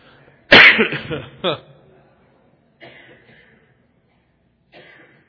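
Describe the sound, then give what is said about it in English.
A loud cough from a person in Oklahoma bursts out, followed quickly by a short rasping throat clear, then a couple of faint, quieter throaty noises trail off. “I didn't cough in Hawaii.”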